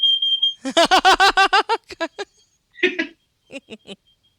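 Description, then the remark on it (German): A voice imitates a smoke detector alarm: a steady high whistle, then a rapid run of sharp, harmonic chirping pulses that trail off into a few scattered, fainter bursts. Fairly loud. “Manchmal habe ich als Lieblingsgeräusch einen Rauchmelder.”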